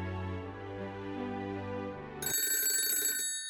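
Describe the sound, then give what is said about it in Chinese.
Soft sustained music plays, then a telephone at a detective agency suddenly rings, a loud, bright, trilling bell burst lasting about a second near the end. No one speaks. “苏菲姐姐，有电话。”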